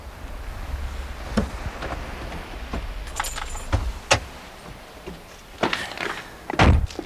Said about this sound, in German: Aber da kommt ein Auto.